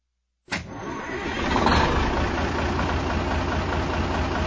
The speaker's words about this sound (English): pretty lucky drawing this new diesel-electric engine. You're right. Most people have never seen a diesel-electric. Is she ready to go?